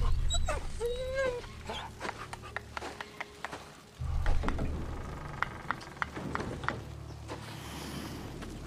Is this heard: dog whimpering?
yes